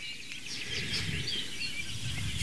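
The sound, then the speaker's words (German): A Eurasian blackbird sings in the background, its warbling phrases fairly faint and continuous over a low, steady outdoor rumble, with no voices present. “Entweder ist der Gesang melodisch, die super Amsel, die wir im Hintergrund auch hören.”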